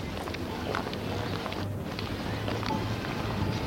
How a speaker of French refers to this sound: Le bruit de la rue surprend toujours Constant.